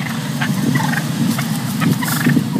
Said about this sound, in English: Those are residents of Brookline in Foxborough, Massachusetts, you just heard. This menace that's plaguing the Boston metro area, wild turkeys.